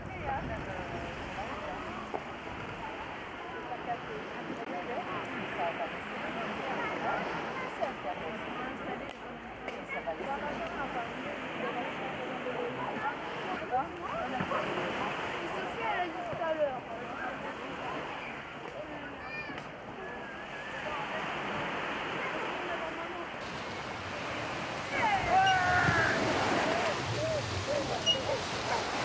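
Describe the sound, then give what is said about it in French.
A strong Mistral wind roars steadily, a dense rushing gust that swells slightly near the end, with voices faintly audible beneath it. “Quel vent! C'est pas du vent, ça!”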